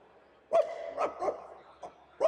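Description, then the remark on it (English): A drug dog barks about five times in an uneven rhythm, short sharp woofs with a couple of softer yelps between, clear with no talking over it. “How do you confront a drug dog?”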